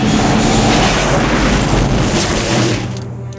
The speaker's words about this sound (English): Suddenly, Luke Speeder is hit, sending it crashing into the ice below.